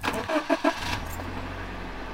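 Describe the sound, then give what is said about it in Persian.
A bus engine cranks over in a few quick bursts, catches, and settles into a steady low rumble that carries on as the bus pulls away, heading toward the city of Kerman; no voices. “حسین سوار اتوبوس شد و رفت به طرف شهر کرمان.”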